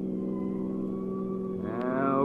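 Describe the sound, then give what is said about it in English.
A car engine hums steadily and loudly, then its tone shifts near the end as the car eases off, slows down and pulls over while coming into Los Angeles. “Okay, pull over.”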